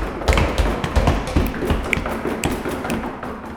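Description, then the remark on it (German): Irregular knocks and dull thuds made by ghosts tumble over one another against a low rumbling clatter, loud and growing louder, a chaotic burst of ghostly banging. “Die anderen heulen, jauchzen, klopfen oder poltern.”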